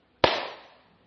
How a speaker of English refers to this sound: So in the time it took you to process that clap, probably a quadrillion messages, roughly, were sent inside your head at all levels of the nervous system.